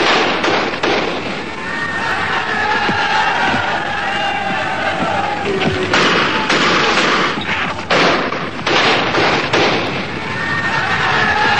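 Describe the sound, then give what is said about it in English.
Repeated sharp cracks of gunfire ring out over the roar of a large, agitated crowd, with shouts and clatter filling a loud, chaotic street scene in Ireland during fighting between Catholics and Protestants. “Meanwhile on Earth, in Ireland, gunfire as the old fight between Catholic and Protestant flared up again.”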